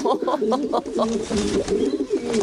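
Pigeons coo steadily, a run of throaty, rolling warbles that overlap one another, with a faint wash of background noise behind them.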